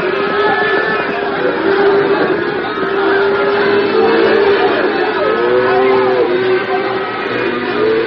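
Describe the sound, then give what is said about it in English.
A herd of hundreds of steers lowing together as men drive them in a close-packed herd on a long trip south, many overlapping moos blending into a loud, continuous, steady drone that holds for the whole stretch without a break. “At a word from Abel, the men drove the cattle into a close-packed herd and started on a long trip south.”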